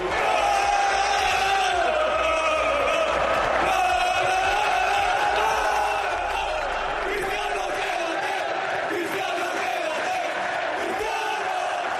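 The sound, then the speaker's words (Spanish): A huge stadium crowd, led by the footballers, chants "Cristiano, quédate" in unison, urging Cristiano to stay, a loud, sustained roar of many voices rising and falling rhythmically, filling the space for the full duration. “Bueno, sus compañeros interrumpían el discurso de Cristiano y el público arrastrado por los futbolistas gritaban aquello de Cristiano, quédate.”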